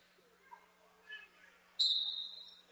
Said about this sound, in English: Opening tip, Holtzinger's got it, finds Ortuno behind the defense. She misses the lay-in. Rebound, Redhawks. And we got a whistle.